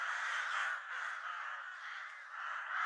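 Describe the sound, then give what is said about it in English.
Hundreds of carrion crows circling in the sky above a mountain, alongside vultures, caw harshly, their rasping calls overlapping in a loud, nearly continuous chorus with a couple of brief dips, and no voices. “The mountain even has its own wildlife, as it is covered with clouds of insects, and the sky beyond are hundreds of vultures and carrion crows circling.”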